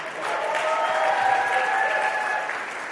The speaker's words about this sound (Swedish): Kom igen. Ge honom en applåd.